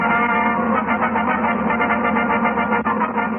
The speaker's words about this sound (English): while that fanfare is pretty standard now, it does seem to have an echo of … in it